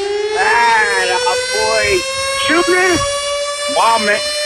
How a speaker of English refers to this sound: Sound the alarms!